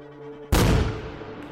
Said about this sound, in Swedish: Smällen blir enorm. Trycket från explosionen slungar honom 4 meter baklänges. Och en av de andra poliserna kastas över en fåtölj.